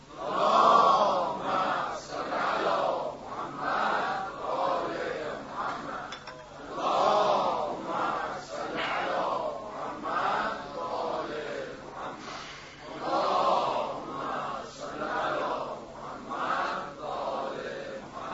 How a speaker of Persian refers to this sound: شما منو تشویق بفرمایید با 3 تا صلوات غرا.